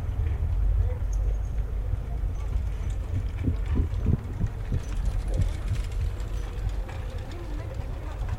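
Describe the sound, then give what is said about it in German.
Dull, muffled thuds in an irregular walking rhythm: footsteps picked up through the ground by a vibration-sensitive microphone, rising out of a constant low rumble and then fading back into it. “Es registriert vorbeifahrende Autos, Fahrräder und Schritte im Umkreis mehrerer Meter.”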